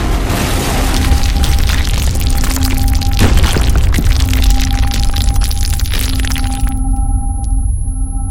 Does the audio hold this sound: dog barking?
no